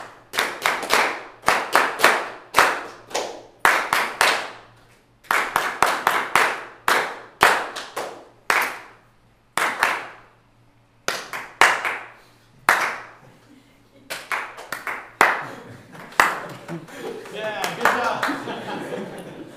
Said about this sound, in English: So it's as simple as it sounds. Quarter note, eighth note, quarter note, etc. I'll give you a measure again. We'll do 8, but we're just clapping it this time all together, and we'll do the whole thing.